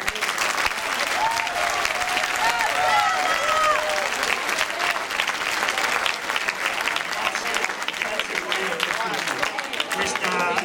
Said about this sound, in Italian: applauso particolare a Monsignor Barbareschi che è qui con noi stasera.